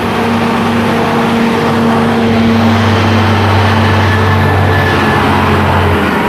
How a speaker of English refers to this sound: Actually, no, that's a dump truck. A noisy dump truck, but a dump truck.